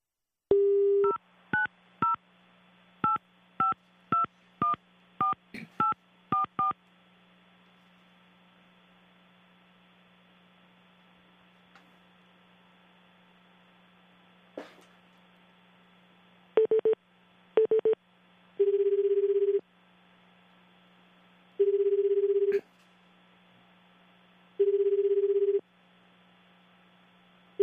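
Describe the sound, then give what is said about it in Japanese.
A quick series of short telephone keypad tones as a number is dialed to connect a radio guest by phone, a pause, then a few clicks and a ringback tone buzzing in repeated one-second bursts over a faint steady line hum. “それでは今から電話つなぎますね。”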